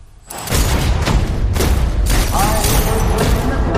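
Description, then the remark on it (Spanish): Loud, rapid bursts of gunfire and heavy thudding impacts of blows crash over a dense, booming action soundtrack in an action film trailer, one sharp blast after another with barely any pause across the whole stretch. “Bueno, pues ahí está, efectivamente, este actor que se ha hecho experto en pelis de acción, en la que no faltan los mamporros y los tiros, todos muy certeros además, ¿eh?”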